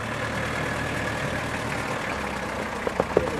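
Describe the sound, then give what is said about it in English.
A bus engine idles steadily at the end of a bus journey, as the bus arrives at a Daughters of Charity convent in Jimma, with a continuous low rumble and faint hum, joined near the end by a few short, sharp clicks or knocks; no one speaks. “At the end of the bus journey, relief.”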